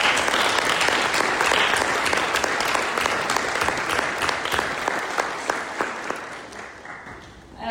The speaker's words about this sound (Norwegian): Vi skal høre vitnesbyrdet senere, men kanskje vi klapper for han som ble leder i Alfa.